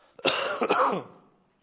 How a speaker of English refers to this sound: Sorry about my cough.